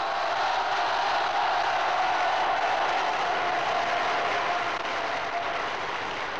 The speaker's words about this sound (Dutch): Dit applaus, dat voer ik af naar Mies. Vind je dat goed, Mies? Wat? Dat applaus voer ik af naar jou.